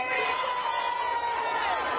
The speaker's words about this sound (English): And now the gay pride marchers are cheering because the cops are about to come in and whoop some of these Palestinian protesters' asses.